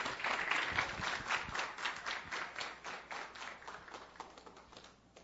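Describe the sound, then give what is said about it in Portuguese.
A round of applause from a group at a ceremony presenting the Guarda Municipal Destaque do Ano 2021 honour, with dense, steady clapping that carries on evenly for several seconds before easing off slightly, with no talking. “Uma salva de palmas.”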